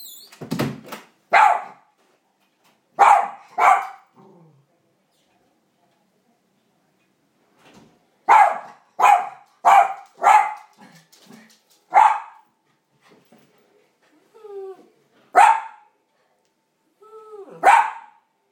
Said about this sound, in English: Every time I go out to the bin, he starts barking like there's someone at the door. I think it's going to turn into a howl if I stay out there long enough.